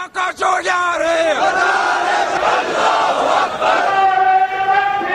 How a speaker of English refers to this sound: Here in June of 2011, Pakistanis assembled in Karachi to protest American drone strikes.